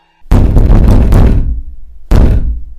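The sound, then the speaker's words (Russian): Loud, rapid pounding with full force on a door, a dense flurry of heavy blows for about a second, then a brief pause before another burst of banging starts. Forceful, with no voices. “И вдруг заколотил со всей силы по двери.”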